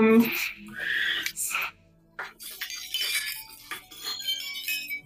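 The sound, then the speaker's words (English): A wind chime tinkles with several bright, overlapping metallic notes that ring and shimmer after a brief stretch of rustling and clinking, then a short pause. “This is a wind chime.”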